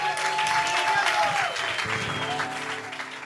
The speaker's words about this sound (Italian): Un grande applauso, la prima volta sul palco qui a Milano di …,